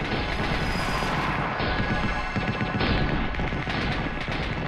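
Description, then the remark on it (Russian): Dense, continuous automatic gunfire crackles throughout a city, overlapping bursts from machine guns and automatic rifles fired as a celebratory salute for the capture of Berlin, blending into a loud, sustained barrage with occasional heavier booms and no pauses. “Но по тону и яростному многообразию огня, главным образом пулеметного и автоматного, стало понятно, что нет, это не то.”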